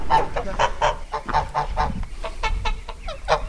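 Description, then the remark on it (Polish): A flock of geese on an organic farm holding an open day in Marwice, Widuchowa commune, honking loudly and continuously, overlapping nasal calls in quick irregular bursts, with a low rumble of background noise and no speech. “Podobno gęsi uratowały Rzym.”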